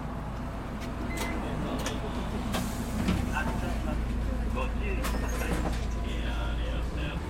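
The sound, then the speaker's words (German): Steady low engine rumble of city bus number 59 in motion in Japan, heading toward Ritsumeikan University, with scattered clicks, rattles and faint chimes over a constant droning interior hum, continuous. “Herr Okumura macht sich auf den Weg in sein Stammcafé und steigt in den Bus Nummer 59 in Richtung Ritsumeikan-Universität.”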